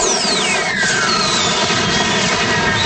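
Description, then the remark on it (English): A loud, steady rocket-like roar from fireworks launching, with thin whistling tones that slide downward in pitch over about three seconds. No voices. “It sounds like a rocket of some sort. Yeah, it's fireworks.”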